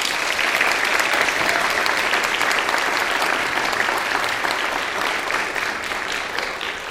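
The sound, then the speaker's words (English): A crowd claps steadily and loudly for the full seven seconds, a dense, even wash of many hands with no voices breaking through, fading only slightly toward the end. “I know in our excitement we like to clap a lot, but we would ask that you would hold your applause until the end of each presentation for each of the groups so that we can actually get through all of the lists before the time.”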